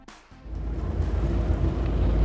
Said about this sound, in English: That's right. I'm on a boat. I'm on the Alcatraz Cruise. It's a hybrid cruise ship.